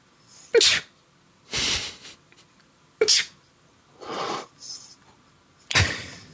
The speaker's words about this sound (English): Dude, it was like seven sneezes in a row. And they were like that was real. I can't redo that.